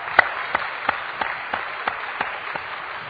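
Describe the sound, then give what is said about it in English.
A crowd applauds steadily for military veterans rising to be recognized, a dense wash of clapping with a few sharper claps standing out at a regular beat, with no voices over it. “So, will my fellow veteran, please do us an honor, rise up, let's recognize you. Big hand.”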